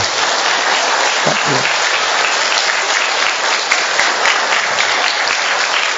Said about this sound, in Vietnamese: Một tràng pháo tay thật to thưa anh chị em.